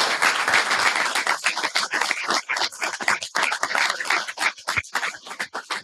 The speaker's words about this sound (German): Applaus und viel Vergnügen.